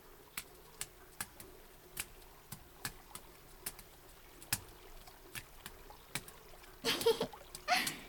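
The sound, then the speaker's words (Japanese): Steady drips of water tick away, then two short, loud splashes of water being poured out near the end: bathwater poured over the body (kakeyu) at an open-air hot spring bath, before showering and entering the tub. “ここで掛け湯をしてシャワーしてから、その後湯船に行くからね。”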